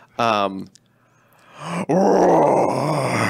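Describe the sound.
A person imitates a roar with their voice: a short voiced grunt, a pause, then a loud, rough, sustained roar lasting nearly two seconds.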